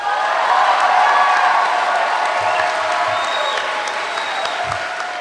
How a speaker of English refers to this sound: The 1,500 people jump to their feet. They hoot and clap for more than a minute.